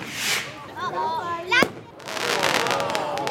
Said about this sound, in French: So, jetzt haben wir den nächsten Artikel. Das ist eine 5er Fontänenbatterie. Ne, heißt Kilimanjaro